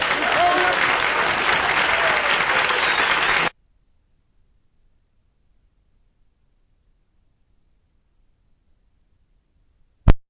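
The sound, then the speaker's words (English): A crowd applauds at the end of a live recording of a song, dense, steady clapping for about three seconds, then it cuts off abruptly into silence, broken only by a single sharp click near the end. “Okay, didn't know that was a live version, trying to stop all the clapping and stuff there, but there it is.”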